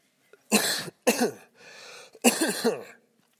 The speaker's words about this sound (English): I'm about to cough.